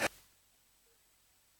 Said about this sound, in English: Excuse me, I guess I have the Rona because I'm coughing now.